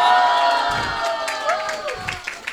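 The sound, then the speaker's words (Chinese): A live audience of about 120 people at a recording cheers and whoops with scattered clapping, a bright, dense wash of voices that stays loud for a couple of seconds before thinning out slightly. “哈，哇，你不用鼓了，不用太假了，好吧？”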